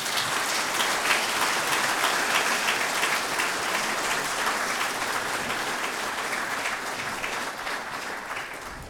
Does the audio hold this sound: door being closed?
no